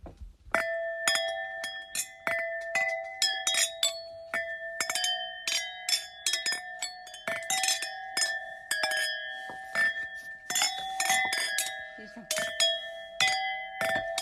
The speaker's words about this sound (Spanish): ¿Es campanas? ¿Son campanas? Ay, me cuesta identificarlo. Bueno, son copas brindando. ¿Son copas brindando? Son copas brindando, ¿no?